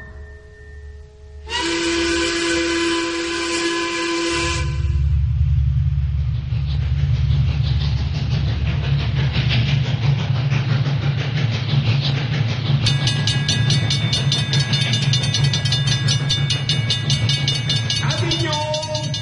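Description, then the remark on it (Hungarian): A train runs along the rails with a loud, steady rumbling roar, opening with a brief whistle-like blast and ending with shrill metallic squealing over the continuous rolling noise. “A vasút nem vezet tovább.”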